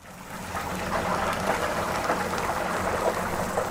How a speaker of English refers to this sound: Chicken coated in a batter of secret spices sizzles in oil. At the Mr. Big Stuff Eatery, even the squares of macaroni and cheese, known as mac and cheese, are deep-fried.